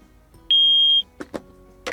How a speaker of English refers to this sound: Peppa and George, every time you hear a beep, I would like you to put a block in the bucket, okay?